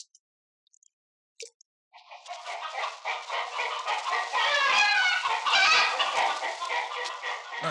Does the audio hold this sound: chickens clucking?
yes